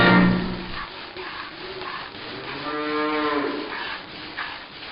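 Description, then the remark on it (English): Cows moo repeatedly during milking, with one low, drawn-out moo at the start and a longer, rising harmonic moo near the middle, over a steady barnyard background. “How's milking it going? Milking the cows.”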